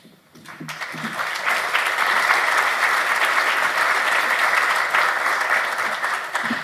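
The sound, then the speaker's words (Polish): An audience at the Kongres Małżeństw (Congress of Marriages) breaks into sustained applause during the Amicus Matrimoniorum 2022 award presentation, the clapping swelling within the first second into a dense, steady wash of many hands that holds at a fairly loud level until the end. “Dziękujemy za brawa, ale za chwileczkę mam nadzieję, że będą większe”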